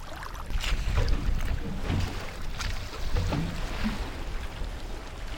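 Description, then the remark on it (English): A small wooden dugout canoe, built from a tree trunk, moves across water with no engine, paddle strokes splashing irregularly against a steady wash of water and low wind rumble. “Fishing is carried out in coastal areas or mangrove swamps from simple craft without engines constructed from tree trunks.”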